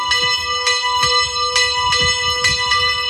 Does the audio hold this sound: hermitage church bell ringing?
yes